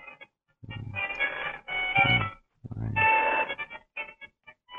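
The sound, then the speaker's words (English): A cheerful, melodic cell phone ringtone plays in repeated bursts of bright, jingly tones, each phrase separated by short pauses, clear with no talking over it. “Sounds like a very festive ringtone you have there.”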